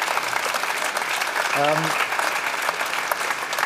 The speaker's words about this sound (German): Ja, Applaus dafür, dass das jetzt am Ende geklappt hat.